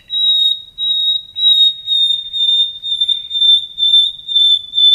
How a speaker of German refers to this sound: Das geht ja immer so direkt ans Herz, finde ich, dieses Sehnende. Das sind die Pfeifstrophen und das ist auch das, was für viele Menschen, glaube ich, den Nachtigallgesang zu diesem... sehnsuchtsvoll, frühlingsankündigend, Liebesnächte und so weiter.